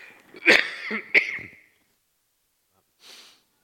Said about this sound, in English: I'm going to cough.